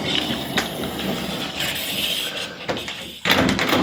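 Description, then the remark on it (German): A door is pushed shut by someone coming indoors from outside, with a few rattling, scraping handling noises leading up to a firm thud near the end. No one speaks. “So, die Tür mache ich mal zu.”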